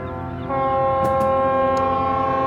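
Deep ship horns from ships surrounding a container ship in a harbour blare together in a long, steady chord that swells louder after a brief moment and holds without pause, with no voices.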